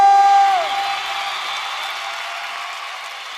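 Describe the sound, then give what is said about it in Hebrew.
A crowd applauds and cheers in a steady, dense wash of noise, with a high whoop or whistle cutting through at the start before the clapping settles and fades slightly. “חבר'ה, איתכם הרבה מחיאות כפיים והרבה אהבה.”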